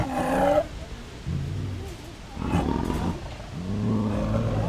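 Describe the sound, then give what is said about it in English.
Big cats at the Turpentine Creek Wildlife Refuge in Eureka Springs roar and growl in a run of deep, rumbling bursts, opening with a brief higher snarl, then three loud, throaty roars separated by short pauses. “The refuge offers daytime tours of its big cat habitats”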